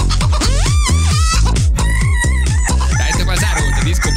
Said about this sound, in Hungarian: Kakas volt a keverő mögött, és ezt láttam. Nagyon nagy. Feljelentették csendháborítással állítólag, de nem hagyta abba.